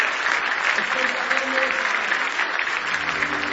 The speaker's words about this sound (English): Yeah, give the Lord a big hand clap of praise if you love him this morning.